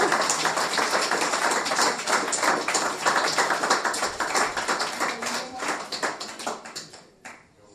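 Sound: audience applause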